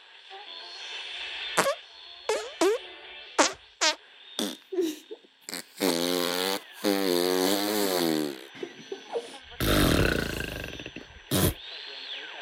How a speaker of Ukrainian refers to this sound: Дійсно, і ми всі знаємо, як звучить пук. Це голосне гурчання або приглушений свист, і ми також знаємо, що ці звуки виходять з дупи, що це повітря, яке виходить із нашого кишківника.